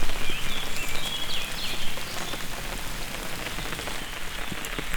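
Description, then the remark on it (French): Steady, dense rain that has grown heavier pours down, a constant hiss of drops pattering on surfaces, with brief faint chirps of birds and croaks poking through the downpour. “La pluie a donc forci.”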